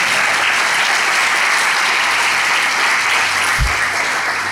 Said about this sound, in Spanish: Dale el aplauso al Señor, el mejor que tengas esta mañana.